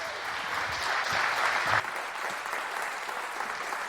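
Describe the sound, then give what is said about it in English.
Steady applause from an audience in a tent welcomes a speaker onto the stage, a dense wash of many hands clapping at once that holds at a fairly even level, dipping slightly partway through before carrying on. “So please welcome her with a very warm round of applause.”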